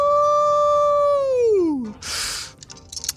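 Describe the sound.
A big, loud howl holds a steady pitch for over a second, then slides downward and trails off, followed by a brief breathy whoosh of noise.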